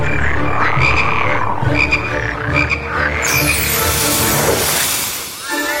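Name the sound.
frogs croaking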